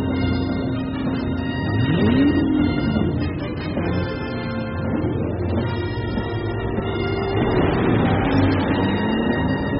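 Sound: car engine revving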